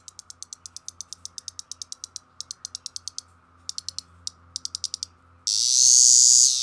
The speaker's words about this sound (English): Cassin's periodical cicada makes a quick burst of sound, followed by some rapid clicks.